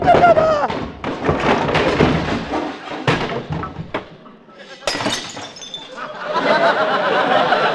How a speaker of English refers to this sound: Oh, no, I opened the wrong door and he fell down the cellar stair.